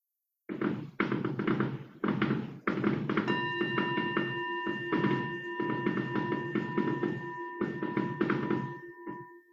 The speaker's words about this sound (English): You may hear in the background some bangs. I'm very close to the Royal Showgrounds and the fireworks are happening now, so all is safe.